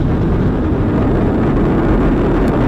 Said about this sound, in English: All 4 RS-25 engines on the core stage and 2 solid rocket boosters now propelling the vehicle at 128 miles per hour.